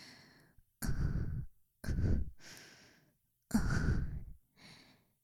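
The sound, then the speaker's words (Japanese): A series of slow, breathy exhalations, some sounding like deep sighs, with short pauses between them and no talking. “聞こえてるかな？私の吐息。”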